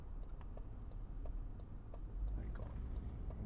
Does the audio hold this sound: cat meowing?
no